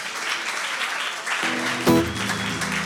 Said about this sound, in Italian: Va bene, potete farlo un applauso, dai.